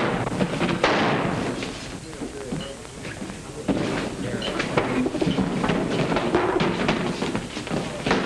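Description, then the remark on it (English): Loud gunshots fired from a back door crack out, one sharply early and another a few seconds later, amid a rumbling, noisy background with scattered smaller bangs and thuds. “The shots came from the back door.”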